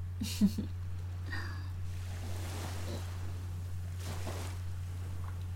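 ocean waves

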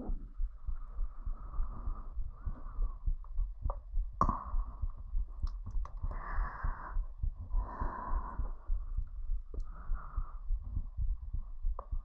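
heartbeat heard up close

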